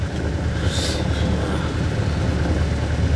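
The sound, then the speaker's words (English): A car engine runs with a steady, low, droning rumble that holds throughout, fairly loud, with no voices over it. “shut off the engine.”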